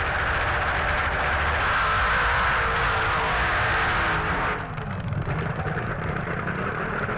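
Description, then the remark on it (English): Two powerful drag racing car engines roar loudly and continuously, a dense, rumbling blare that holds steady, then shifts slightly in tone toward the end. No voices are heard. “Both engines are maintained by Roy Phelps of Santa Pod. They both sound very strong.”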